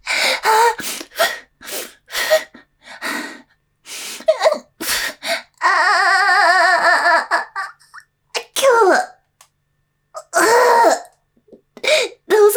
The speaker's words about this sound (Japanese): 気持ちいい、ちょっと、我慢しようとしたら咳込んじゃう。ああ、気持ちいい、感じる声と混ざって、システマのせいで咳込んじゃう。